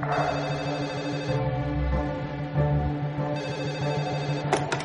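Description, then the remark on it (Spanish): A telephone rings with a steady, sustained electronic tone that fills the whole stretch, moderately loud, with no voices, as a call is placed to the library in Sentmenat on a Monday. “El lunes, así que abren la biblioteca de Sentmenat, llamo por teléfono.”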